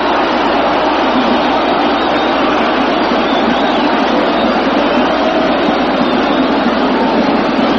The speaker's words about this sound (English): Boy, the crowd is roaring now.